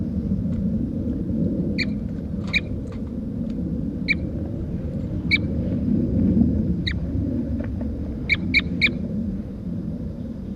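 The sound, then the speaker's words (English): A bird, recorded at 9 o'clock a.m., gives about nine short, sharp, high calls at irregular intervals, some in quick pairs or triplets, clear above a steady low rumble of outdoor background noise. “Start recording. This is bird 4-3 at 9 o'clock a.m.”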